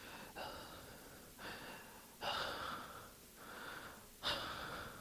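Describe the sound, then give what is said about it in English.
A voice imitates the heavy panting of something standing behind a closed door, with several harsh, breathy gasps in an uneven rhythm, some louder and sharper than others, with no talking. “Like something panting.”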